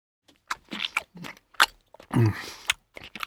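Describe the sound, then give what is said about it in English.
Loud, messy chewing while eating: a string of irregular wet, smacking mouth bursts over about three seconds, with one longer, lower, voiced munching sound midway. “Can you try not to eat so noisily? It really does sound disgusting.”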